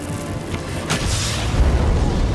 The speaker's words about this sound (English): A massive jet of flame roars up the chamber. The operations room staff squint in the intense glare.